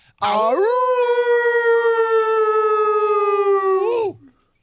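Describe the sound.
A caller from Virginia on ESPN Radio imitates a wolf howl with one long, loud, sustained vocal note that rises at the start and drops off at the end, lasting about four seconds with no other sounds.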